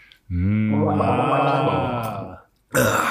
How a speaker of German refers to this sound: Schlucken ist Liebe, gurgeln ist zu viel, oder wie?